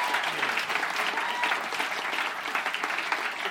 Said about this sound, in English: Thanks so much for coming on, …. What a pleasure. …, a big round of applause.